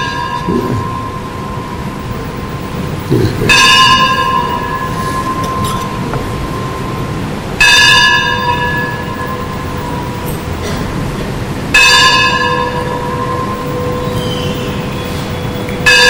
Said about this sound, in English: Kind of compete with the bell.